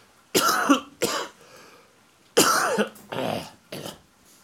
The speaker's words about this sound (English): As I give my demonstration cough. But that's just last dregs. I am, for all intents and purposes, for all the feeling of it, I am through the COVID.